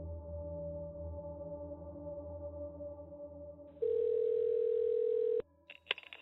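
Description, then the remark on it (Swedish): A phone's outgoing ringing tone, from a call to the police, sounds once as a loud, steady electronic burst lasting over a second, following a quieter continuous hum, with a short clicky blip afterward and no talking. “Samtidigt har Christer plockat fram sin telefon för att ringa polisen.”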